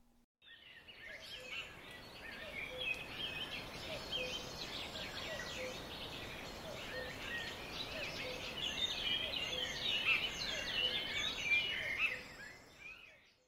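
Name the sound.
sparrows chirping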